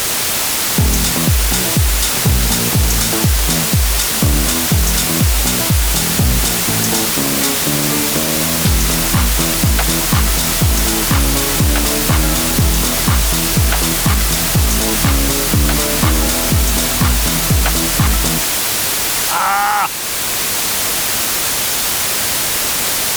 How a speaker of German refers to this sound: und dann unseren Tongenerator, jetzt wird es ein bisschen nervig, den Tongenerator aktivieren und dann das Rauschen davon direkt in der nächsten Spur aufnehmen. Also, ich hoffe, du erträgst das oder spulst uns einfach ein paar Sekunden vor.